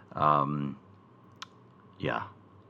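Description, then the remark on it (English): A blind creature enemy in a video game gives a guttural, throaty croak with clicking, then a single sharp click after a pause, followed by another rasping, teeth-grinding burst, eerie, with no speech. “So, the most terrifying sound in all of video games is that clicking and that grinding of teeth or whatever it is.”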